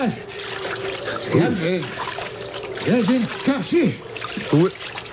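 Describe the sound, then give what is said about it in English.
Water sloshes and splashes steadily throughout as someone swims through it towards the onlookers, while brief indistinct voice-like sounds rise over the wash a few times. “There was someone in the water swimming towards us.”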